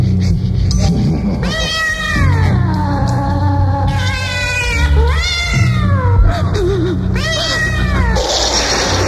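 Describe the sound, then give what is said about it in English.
A cat yowls in several long, drawn-out meows, rising and falling in pitch, loud, with a steady low hum running underneath throughout. “You are about to go on a thrilling journey into the graveyard, where a man cannot escape his fate, where a cat can terrify a human being.”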